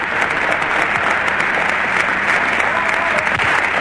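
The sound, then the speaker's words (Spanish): Sustained, dense applause from a large standing crowd for the performance of a band and a singer fills the whole stretch, steady and loud without pauses, like a prolonged standing ovation. “Prolongados aplausos de emoción, de alegría y también de despedida a quien nos mantuvo la moral en alto.”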